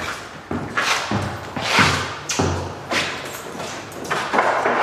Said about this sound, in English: Opening another door coming towards you. There you go.